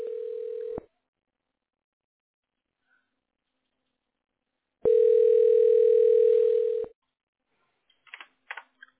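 A telephone rings over the line: two long, steady electronic tones separated by a few seconds of silence, followed by a few faint clicks as the call is picked up.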